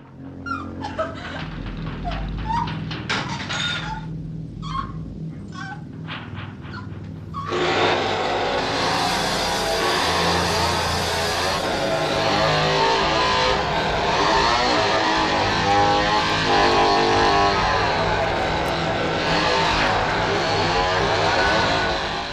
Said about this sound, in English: And as the camera focuses on the chainsaw, Leatherface grabs it and turns it on, and he proceeds to cut Kirk as Pam looks on.